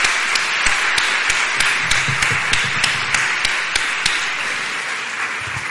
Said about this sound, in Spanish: Le damos un aplauso. Gracias.